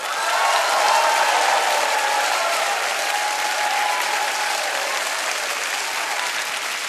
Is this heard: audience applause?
yes